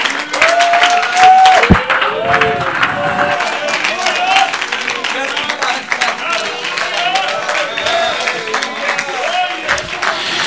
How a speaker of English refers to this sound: Clap your hands and magnify him.